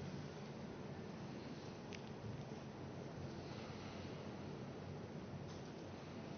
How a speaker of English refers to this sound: As the rain pours down God's blessing upon our earth.